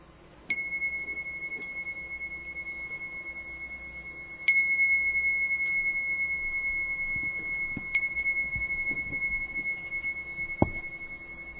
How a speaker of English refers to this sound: Because feng shui is an ancient art and science and sacred, I just wanted to ring the bells again to bring us back into that sacred, beautiful space